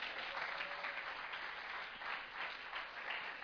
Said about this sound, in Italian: Amen! Fate un applauso al Signore, gloria a Lui.